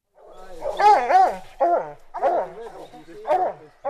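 A pair of hound dogs, having caught a mountain lion's scent trail after 6 hours of searching in the hills of Santa Cruz, California, bay and bark in a series of long, wavering howls and sharper yelps, overlapping calls with brief pauses between them.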